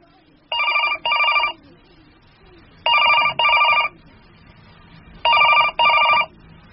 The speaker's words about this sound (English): The phone went on ringing. It was driving me crazy.